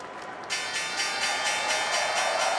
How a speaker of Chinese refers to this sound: 好，今天开市的钟声已经响起。